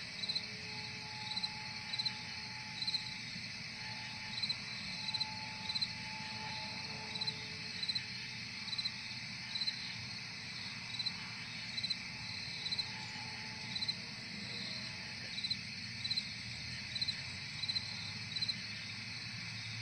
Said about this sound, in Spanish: A continuación escucharemos el mismo sonido grabado de grillos, ralentado a la cuarta parte.